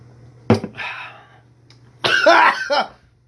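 A sharp cough bursts out, followed after a pause by a longer, raspy fit of harsh coughing and throat clearing, loud and alone over a faint low hum.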